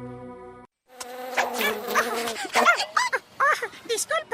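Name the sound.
mosquito buzzing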